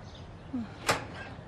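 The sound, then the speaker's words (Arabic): A house door is opened for a visitor: a short, faint creak followed by one sharp latch click, then quiet. No one speaks. “افتحي لي الباب لحتى اشرح لحضرتك.”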